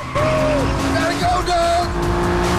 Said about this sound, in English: Blue flames shimmer from the exhaust as the car surges forward.